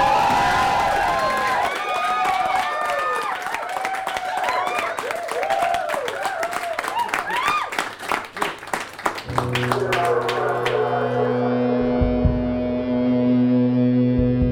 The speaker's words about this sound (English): Hey, a round of applause out there. Lounge, come on, give it up.